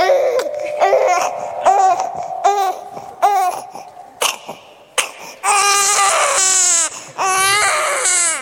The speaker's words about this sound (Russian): Вот пусть тети и дяди послушают тоже. Может, некоторые забыли уже, что такое маленький мальчик. Да, вот такой маленький мальчик так плачет.